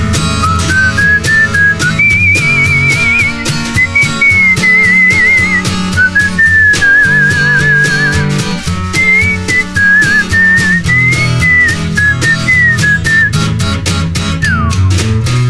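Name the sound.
whistled melody solo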